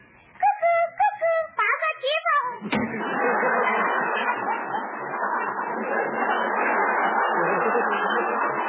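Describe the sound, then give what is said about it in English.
A Swiss cuckoo clock bird calls out several quick, hooting two-note cuckoos at 2 o'clock, loud, before a sustained wash of broad, rushing noise takes over for the rest. “Why doesn't the cuckoo come out?”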